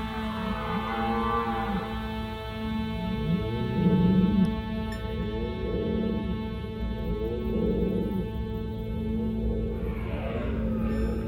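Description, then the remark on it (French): A red deer stag bellows during the rut, a deep, hoarse roar repeated in rough groaning pulses, loud, with no voices present. “L'image classique est celle du brame du cerf en automne, lorsque les grands et robustes dicors s'affrontent bruyamment dans la forêt en poussant des cris rauques.”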